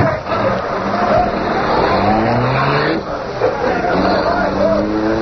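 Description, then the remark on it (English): A car driven by Cato roars and revs hard as it speeds off, its pitch climbing and dipping through gear changes, with a brief squeal of tires amid the loud, steady rush. “Give it the gas, Cato.”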